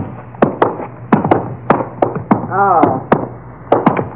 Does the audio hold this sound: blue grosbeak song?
no